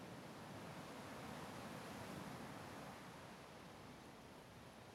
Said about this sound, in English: White peaks rise in a line out in the water, crashing on a stone breaker that keeps the water close to the shore, peaceful and calm.